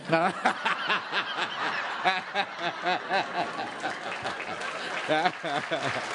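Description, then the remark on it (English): An audience applauds with steady, dense clapping that runs for several seconds, mixed with overlapping laughter and chuckles from the crowd. “Yes, I'm applauding that too.”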